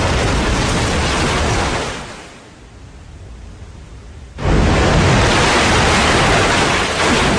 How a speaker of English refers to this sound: The surge of water blows through the waterfall.